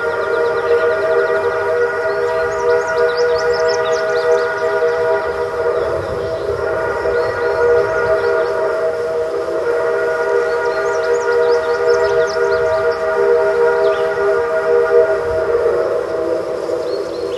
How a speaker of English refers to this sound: That train whistle was recorded near Cass, West Virginia, by NPR's Bill Deputy.